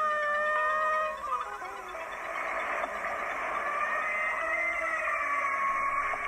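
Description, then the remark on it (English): Killer whales answer a synthesizer with imitations of its pseudo killer whale calls, heard through headphones from a boat: a steady stream of mid-pitched whistles and squeals that glide and waver over a constant hiss, with no voices. “It worked in the sense that they responded with an imitation of some of my kind of pseudo killer whale sounds.”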